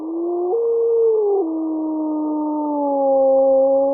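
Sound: wolves howling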